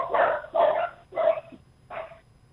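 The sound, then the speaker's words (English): Two long-haired miniature dachshunds bark four times in quick, uneven succession, sharp, with a short pause before the last bark and no talking. “They are two long-haired miniature dachshunds.”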